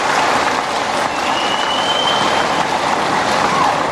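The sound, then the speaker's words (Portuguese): A crowd breaks into a sustained round of applause for a council leader who has taken on another four years in the role. The clapping is dense and loud, with many hands clapping steadily and evenly for the full few seconds and no voices standing out. “E uma grande salva de palmas, porque ele assumiu para mais 4 anos tocar, nos orientar no nosso conselho.”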